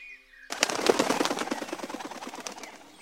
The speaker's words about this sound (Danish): Ved du, hvilket dyr det her er? Det er selvfølgelig fugle, der flyver.